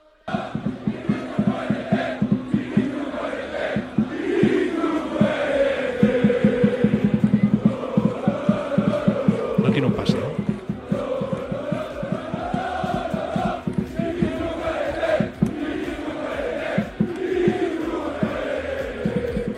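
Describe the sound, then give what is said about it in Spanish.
Nearly 3,000 FC Barcelona fans at Montjuïc chant loudly and continuously, voices rising and falling in rhythmic waves, with sharp percussive bangs punctuating the din as they greet the Barça team bus before the match against Paris Saint-Germain. “casi 3.000 aficionados del Barça han esperado en Montjuïc al PSG y sobre todo al autocar del Barça, y se ha escuchado esto.”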